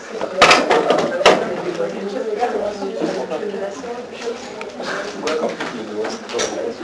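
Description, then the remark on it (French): Someone changes chairs: a chair is dragged and bumped into place with a couple of sharp knocks early on, followed by softer shuffling as someone sits down, with murmuring voices in the background. “Bah, tu changes de chaise. Tu changes de chaise.”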